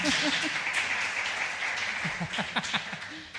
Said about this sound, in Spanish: Bueno, muchas gracias a vosotros por... Puedes aplaudir, no pasa nada.